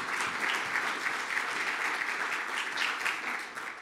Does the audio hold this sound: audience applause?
yes